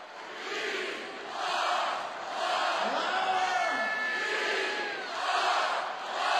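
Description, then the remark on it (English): A huge sold-out basketball crowd at the Staples Center chants "We are one" in unison during a Clippers playoff game, the roar swelling and falling in a steady repeating rhythm, loud and echoing with no single voice standing out. “Throughout the game, the crowd kept repeating what might soon become the Clippers' new signature chant. We are one.”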